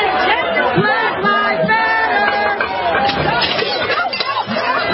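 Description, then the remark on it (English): A steady hubbub of many overlapping voices chattering at once at an outdoor restaurant, with occasional faint clinks rising above the crowd noise, loud and continuous throughout. “Radio listeners, this is an outdoor restaurant.”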